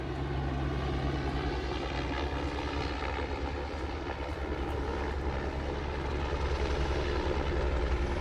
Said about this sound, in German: Der Hubschrauber kommt angeflogen. Die Touristen im Hafenrestaurant nebenan schauen interessiert in den Himmel.